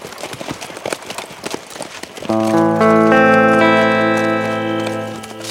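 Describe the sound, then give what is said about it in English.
Hooves of three riders' horses, with a pack mule following, clip-clop in a brisk, uneven rhythm as they ride out, for a couple of seconds before sustained music swells in and covers them. “The three rode out, Andy's pack mule following.”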